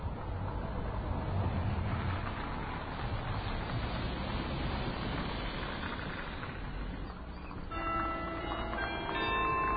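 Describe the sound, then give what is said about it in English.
Steady, loud rumble of street traffic with cars passing throughout, no talking; near the end church bells ring out over the traffic noise as the church strikes one o'clock in the afternoon. “Hopefully the cars won't drown it out.”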